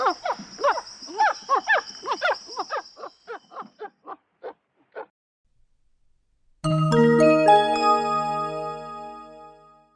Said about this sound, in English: Squirrel monkeys are noisy. They make sounds like dogs.